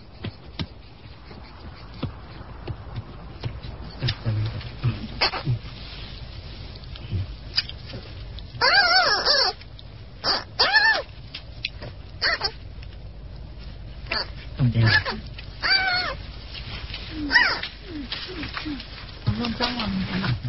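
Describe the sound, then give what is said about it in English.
A seven-week-old female panda cub weighing more than 3 pounds vocalizes in a string of irregular squeaks, squeals and short grunts, with a few longer wavering high-pitched cries mixed in over a faint low background rumble. “Her expanding repertoire of sounds could alarm her mother, still browsing nearby.”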